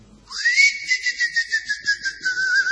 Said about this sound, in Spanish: ¿Y si silbamos nosotros para...? Usted dice que va a salir. Que venga, sí. Capaz que sale, ¿eh? Y probémoslo.